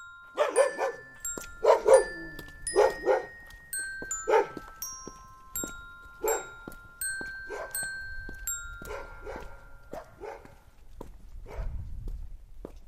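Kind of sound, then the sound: animal, small dog barking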